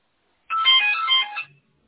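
A telephone beeps with an incoming call: a single burst of bright, high-pitched electronic ringing tones lasting about a second, fairly loud, with no voices.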